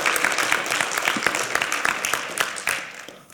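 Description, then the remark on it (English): An audience claps together for the Lord in a dense, steady burst of applause, many sharp overlapping hand claps forming a loud wash that holds for a few seconds before thinning out. “Give the Lord a big hand clap tonight.”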